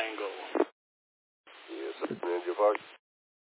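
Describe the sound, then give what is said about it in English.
Two bursts of tinny, band-limited radio voices giving call signs as check-ins, the second longer one sounding jumbled as two transmissions collide and talk over each other, with a short gap of dead air between. “I'm already getting a bit of a double and jumble, so yeah, let's stand by for a second.”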